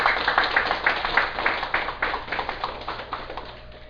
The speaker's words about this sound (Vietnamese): Vậy thì mình cũng nên vỗ một tràng pháo tay.